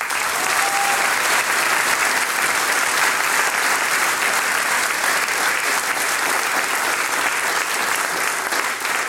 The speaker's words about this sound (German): Danke herzlich, auch der Applaus gehört euch.